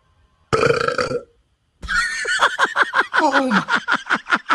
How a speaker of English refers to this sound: …, can you burp one more time for us?